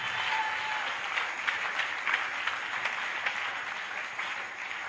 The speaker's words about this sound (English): Well, clap your hands, people.